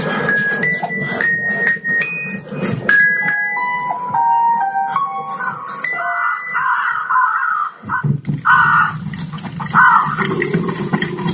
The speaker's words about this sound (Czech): Jaký havrany jsme tam slyšeli.